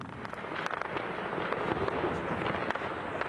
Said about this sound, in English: The sound of intense gunfire fills the air in the Syrian city of Hasaka as Kurdish-led forces fight with militants from the so-called Islamic State.